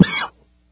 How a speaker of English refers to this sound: Hitting the cough button there, folks. I'm sure this will be what ends up being on television. About once a month, I end up coughing on air, having a coughing fit. I'm having one of those now.